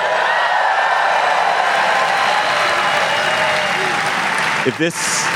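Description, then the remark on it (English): A large live audience at the Norse Theater in San Francisco applauds loudly, a dense, steady wash of clapping and cheering that holds for several seconds before a voice briefly cuts in near the end. “As you can hear, we are live. We're live at the Norse Theater in San Francisco in front of the largest crowd in GabFest history.”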